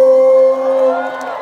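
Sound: audience cheering and whooping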